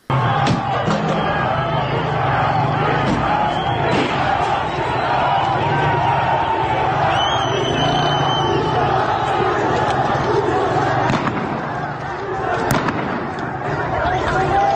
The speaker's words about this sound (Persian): این صدا مربوط به اعتراضات تهران بود.